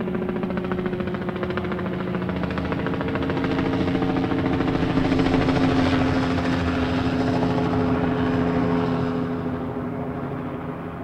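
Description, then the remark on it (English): A blue helicopter flies out to sea and turns west, with a steady rotor chop and engine drone, swelling louder toward the middle before easing slightly as it continues. No voices are heard. “Blue helicopter flew out to sea and turned west.”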